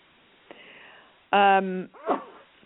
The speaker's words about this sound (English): Had to sneeze.